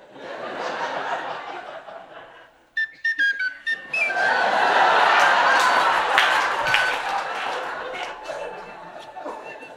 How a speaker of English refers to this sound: So tonight I'll be reading stage directions. And I'll provide transitional music via a tin whistle.